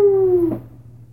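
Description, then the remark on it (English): The tail of a rooster's crow: a drawn-out, slightly falling tonal cry that cuts off after about half a second, leaving a brief burst and a low steady hum. “Every time I hear that rooster, I'm going to think of the day I dedicated myself to you.”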